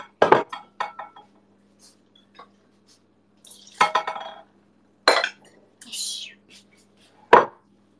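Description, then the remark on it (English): A beer glass breaks while dishes are washed: several sharp glassy clinks and knocks at irregular intervals, with short bright cracking bursts and quiet handling noise between them. “Gloss mine broke while washing it.”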